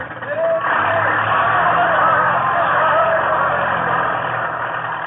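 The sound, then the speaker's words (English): A tractor engine runs steadily, a loud, continuous low rumble with a rough, noisy mid-range roar that holds even from start to finish, with no pauses or revving. “Ivan can handle a tractor under any condition now.”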